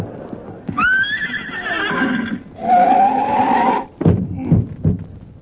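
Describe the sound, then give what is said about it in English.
A horse gives a loud whinny that wavers and falls in pitch, then a second long neigh, followed by a few sharp hoof clops at the end, as its rider urges it on. “Come on, horse, boy!”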